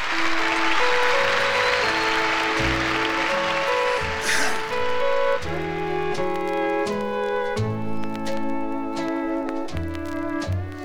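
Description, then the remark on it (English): A crowd applauds with dense, steady clapping over a band already playing. After about four seconds the clapping fades and the music carries on alone. “How about a nice round of applause, ladies and gentlemen”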